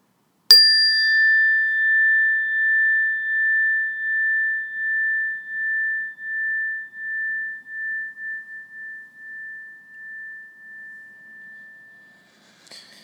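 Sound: meditation bell ringing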